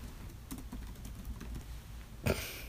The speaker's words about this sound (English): It always gets me when you do typing noises.